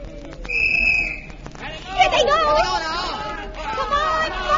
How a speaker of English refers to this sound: Why that whistle so soon? What's happened? What's wrong?